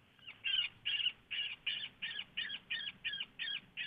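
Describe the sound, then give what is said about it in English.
A woodpecker's distress call, a sound used to call in coyotes when hunting: a rapid series of about eight harsh, raspy squawks repeating at an even pace, loud, with no voices. “Here's a bird distress, a woodpecker distress.”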